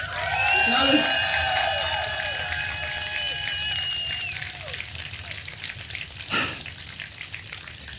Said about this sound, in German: Wir sind im Rahmen des Pre-Opening des CSD Leipzig 2023 live auf dem Leipziger Augustusplatz. Und jetzt hört ihr den Applaus unseres wunderbaren Live-Publikums.